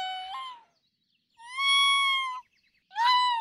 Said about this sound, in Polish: Od lutego do kwietnia trwają gody, kiedy to jenoty posługują się skowytem albo głuchym mruczeniem, różne dźwięki.